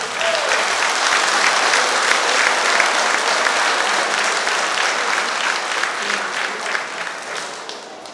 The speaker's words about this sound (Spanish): Pues un aplauso, compañero.